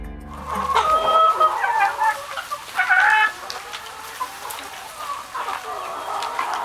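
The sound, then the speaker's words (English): A flock of chickens clucks and chatters steadily inside a farm high tunnel with greens and squash, in early December at about 15 degrees Fahrenheit outside, with overlapping calls rising and falling throughout, loudest in the first few seconds. “I just moved the bulk of the birds into yet another high tunnel where they're going to have access to greens, and there's squash in here, all that.”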